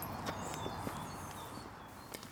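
Footsteps of a man walking off with his guide dog Öman for a lunch walk: a handful of sharp, irregularly spaced taps over a steady background hiss, with faint high chirping faintly audible behind them.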